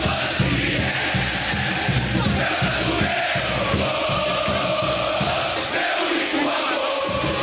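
A huge crowd of Palmeiras football supporters chants and roars in unison, a dense, loud, continuous wall of voices with rhythmic pulses running through it for the whole stretch.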